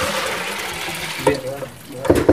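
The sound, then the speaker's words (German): Water pours steadily with a broad splashing rush as the soaking water is poured off pre-soaked lentils from a pot into a sieve, then tapers off, followed by a couple of brief clattering knocks near the end, moderately loud. “Also, damit wir nicht ewig Hunger kriegen, ich habe diese vorgeweichten Linsen jetzt da im Topf, gieße das Wasser ab und hier ein Sieb.”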